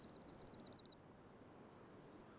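A black-throated green warbler sings two quick phrases of high, thin, buzzy notes separated by a short pause, set against a soft, low forest background with no voices.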